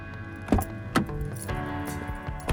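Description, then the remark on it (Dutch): Steady low engine hum fills a car interior on the move, with a few sharp clicks and rattles breaking through every half second or so; no one speaks. “Op dit moment zit ik in de auto onderweg naar Bo.”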